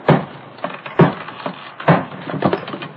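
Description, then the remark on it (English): A gun butt strikes a wooden keg: three heavy, hollow thuds about a second apart, with lighter knocks and scraping between them, and no one talking. “I'll use the butt of my gun.”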